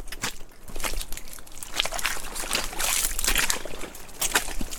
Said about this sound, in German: Unten rauschen die grauen Fluten des Rio Zamora.